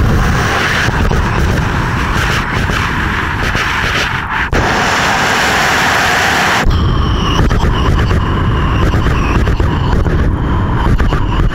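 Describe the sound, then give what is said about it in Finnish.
A voice imitates a train as heard from inside the carriage, made with a blowing technique: a loud, steady, breathy rumble with no words that shifts texture twice, turning harsher and hissier toward the end. “Esimerkiksi hörveturia, sitten normaali junan ääntä sisältä kuunneltu, perämoottoria.”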